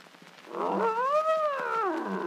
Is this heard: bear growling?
yes